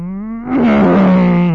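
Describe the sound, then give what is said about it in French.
A voice imitates a race car passing by at the 24 Hours of Le Mans to illustrate the Doppler effect. It is one sustained, buzzy engine-like hum that swells suddenly louder partway through, then holds, its pitch sagging slightly toward the end. “mais en physique, on sait que quand on va aux 24 heures du Mans, les voitures font pas... Elles font...”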